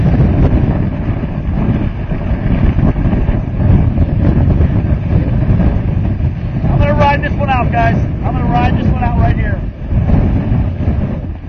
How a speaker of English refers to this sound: The winds are howling 50, 60 miles per hour.